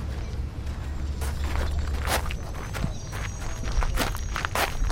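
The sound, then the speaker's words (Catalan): Footsteps crunch across gravel at Camp 6 at a steady walking pace, each step a short gritty scrape, as a lieutenant general walks up to greet visitors, over a constant low rumble of background noise. “Trepitjant el pedrís, ens rep el tinent general Jeff Harris”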